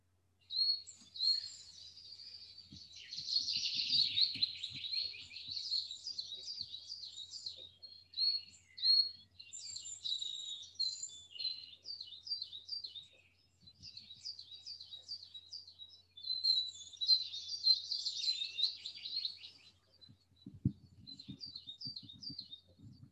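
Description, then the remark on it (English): Several birds sing continuously in bright, high-pitched trills and chirps, overlapping phrases filling the air around a grassy spot under an old oak tree in warm sunshine, with faint low rustling or thumps underneath and no voices. “As you relax back here, the gentle comfort of the grass underneath you, between the roots of this old oak tree, enjoying the warmth of the sun on your face and the bird songs round about.”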